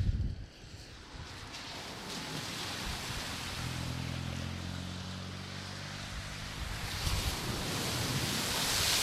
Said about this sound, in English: I'll step back as another car lights on, sends another large spray. You can hear that splashing down. It's like being at the bottom of a water slide when someone whooshes down and discards spray. It's that amount of water.